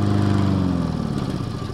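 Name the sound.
lawn mower running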